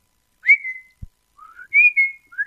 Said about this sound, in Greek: Εγώ είχα έρθει για να ταΐσω τον παπαγάλο. Α, πολύ ωραίο πουλί, ε. Μιλάει.